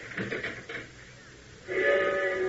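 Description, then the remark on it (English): A city hall tower bell tolls the hour of midnight over the sleeping city with an off-key, wavering, unearthly tone, its loud sustained ring holding steady overtones after a short burst of fainter, uneven sound at the start. “As the bell tolls the hour of midnight, echoing over the sleeping city with a now all too familiar unearthly tone”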